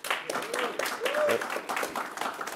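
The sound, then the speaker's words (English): Dense, steady applause from an audience welcoming a speaker, a crackling wash of many hands clapping at once, with a few faint voices or whoops rising through it. “By the way, he's a recent PhD, so you can just give him a big round of applause for that.”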